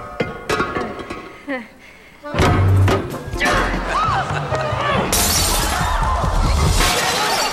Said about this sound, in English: The maid of honor shatters a vase, and it symbolizes happiness for the bride and groom.